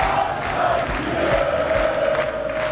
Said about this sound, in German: Und der Kieler Fanblock jubelt über den 3:0 Erfolg von Holstein Kiel.